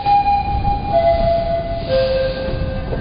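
A subway train hums and rumbles as it pulls into a station, its electric motor whining in steady tones that step down in pitch as it slows, with no voices.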